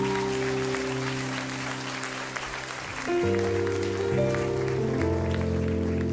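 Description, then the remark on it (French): A crowd claps steadily throughout, a dense, continuous patter of applause blended with music playing sustained chords that shift and grow slightly louder partway through. “Est-ce qu'on peut les applaudir encore une dernière fois?”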